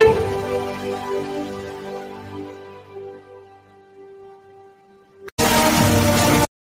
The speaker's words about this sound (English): For anybody watching on video, we'll go ahead and play one of these. For instance, this is a video of a gentleman standing at a waterfall.